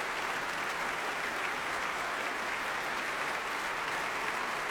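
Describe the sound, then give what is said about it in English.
Sustained applause from a large concert audience after Handel's Hallelujah chorus ending his oratorio Judas Maccabeus, a dense, steady wash of clapping that holds at an even level throughout with no voices standing out. “And you can hear it's getting the same reception tonight.”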